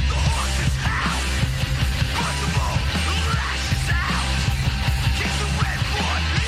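A few seconds of a loud, dense rock song played on Maximum Rock and Roll Radio, with heavy, steady bass and thick distorted guitars filling the mix while a hoarse voice shouts over it throughout.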